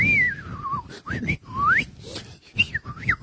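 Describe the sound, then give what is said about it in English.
A whistled melody, a song's whistle solo, with sliding, wavering notes, rising and falling in short phrases over a steady musical backing, clear. “What about the whistle solo?”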